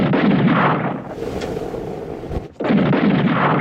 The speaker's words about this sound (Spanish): vuelve a disparar dos veces. El criminal apunta hacia arriba y oprime el gatillo.